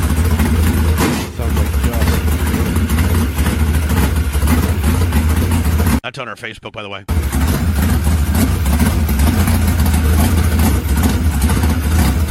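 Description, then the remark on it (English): A loud 726-horsepower open-wheel modified race car engine with a big four-barrel idles with a rough, throaty rumble and revs, cutting out briefly midway before resuming. A man speaks briefly over the engine noise. “726 horsepower. Listen to this.”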